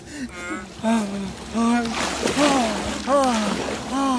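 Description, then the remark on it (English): Water splashes and sloshes noisily and unevenly as a man, stripped of his clothes, is dunked, with strained voices crying out and groaning over the turbulent churning throughout. “Put him in the water.”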